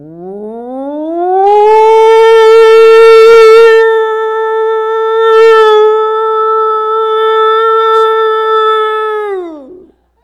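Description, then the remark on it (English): A person's voice imitates an air raid siren, winding up from a low pitch to a loud, steady wail held for several seconds, with a raspy edge early on, then sliding back down. “you ever heard an air raid siren? Those tornado sirens is about the closest thing we have to that now. They wind up.”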